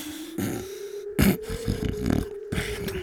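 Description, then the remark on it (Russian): A voice imitates loud snoring: rough, guttural rasps and snorts in several uneven bursts over a low steady drone, the strongest one partway through, heard alone. “Да ты ужасно храпишь. Спать мне не даешь.”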